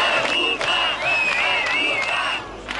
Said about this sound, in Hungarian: Beszédek, sípszó és a kormány lemondását követelő táblák a kaposvári Kossuth téren több száz főnyi tömeg gyűlt össze hétfő este. A tüntetők Gyurcsány Ferenc és a kormány ellen demonstráltak.